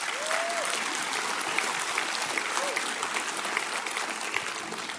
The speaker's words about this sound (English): You're a scalpel in his hand. Yeah, y'all can cheer for that.